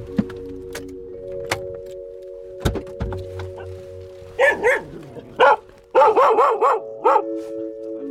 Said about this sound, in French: Et le chien traditionnel des campagnes, des arrivées à la ferme.